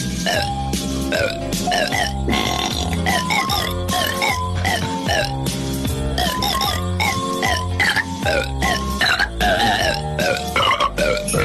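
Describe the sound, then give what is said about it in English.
A festive Christmas classic melody carried by a steady stream of loud burps, each belch pitched to a note of the tune in a continuous rhythmic run with no talking, from a mock album of Oprah Winfrey burping the Christmas classics. “Oprah Winfrey burps the Christmas classics.”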